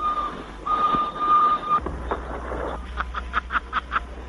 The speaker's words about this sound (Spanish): ¡Ja, hemos pasado del cine mudo al sonoro! Sí, al año 1935 con el sonido del tren en una escena de Nobleza Baturra, la cinta de Florian Rey, y la escena en la que el baturro gritaba al tren